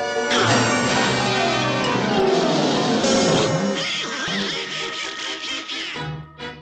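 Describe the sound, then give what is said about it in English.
A duck quacks loudly and insistently, a stream of nasal, raspy honks packed close together for several seconds without pause. “You're fired, Duck! Get out of here!”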